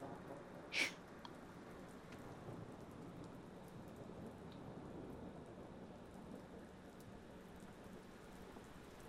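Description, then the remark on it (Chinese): Steady rain hisses evenly throughout, with a low, distant thunder rumble beneath it and one sharp drip or tap near the start. No voices. “因为在下雨，所以我把水温提高了一些”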